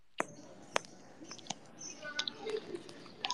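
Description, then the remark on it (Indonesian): Someone chews a piece of tofu, with soft, wet mouth clicks and smacks coming in an irregular rhythm. The chewing is quiet, with no talking. “Ya, aku makan tahu sebiji dulu mengisi energi agar bisa bernyanyi lagi ya.”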